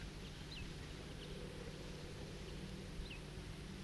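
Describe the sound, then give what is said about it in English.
A bird gives a few short, sharp alarm calls spaced irregularly, faint over a steady rush of flowing water and low rumble. “That bird is giving alarm calls.”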